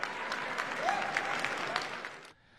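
A crowd cheers and applauds the president's call to end the war, with steady, dense clapping and a brief rising whistle or shout, sustained at a loud level before cutting off abruptly near the end.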